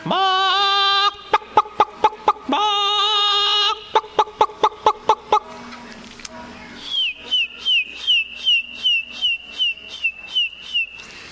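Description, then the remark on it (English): Chickens, roosters and biddies in a chicken yard cluck and call in quick, repeated bursts, shifting between rapid trains of short clucks and higher, squeaky chirping notes, clear with no talking. “Chicken yard is one of my favorite places to spend some time observing the chickens and roosters and biddies.”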